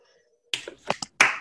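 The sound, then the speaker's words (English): Brief, scattered audience applause for poets after a poetry reading: a handful of sharp snaps or claps in quick succession after a moment of near silence, with no talking. “Let's I'll come on out if you like and applaud these excellent poets who spent all this time with us.”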